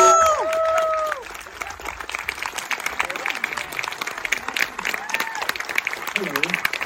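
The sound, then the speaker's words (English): An audience at an event for the film Hitman breaks into applause for Richard Linklater: dense, steady clapping that holds for several seconds, opening with a few high whoops and cheers before settling into an even patter. “A round of applause.”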